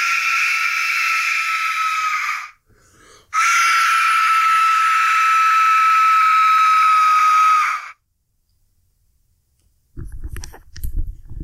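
An Aztec death whistle blown in two loud blasts by someone walking across the room toward the listener, a short one and then a longer one, each a harsh, rushing, scream-like shriek with a steady piercing tone, followed by quiet and some low rustling.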